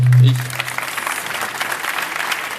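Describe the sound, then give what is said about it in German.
An audience applauds with steady, dense clapping that holds at an even level throughout, preceded by a brief low hum at the very start. “Dann einen herzlichen Applaus für die beiden.”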